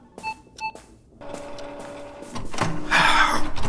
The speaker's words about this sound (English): What's wrong with you? Printer trouble, is it, Constable? Yes. Why? Do you know how to fix it?